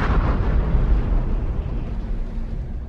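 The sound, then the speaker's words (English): A deep, booming explosion on an oil rig with a heavy low-end rumble that sustains and slowly rolls off over a few seconds, loud, with no voices present. “The lights went out. Then the first explosion hit us.”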